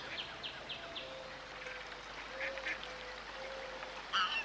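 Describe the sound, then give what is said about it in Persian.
Ducks quack repeatedly on a pond full of ducks, a steady chorus of short calls over faint outdoor background noise, with a louder burst near the end. “این طرف دست چپ یه برکه آب پر از مرغابی.”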